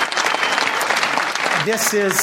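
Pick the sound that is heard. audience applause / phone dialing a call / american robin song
audience applause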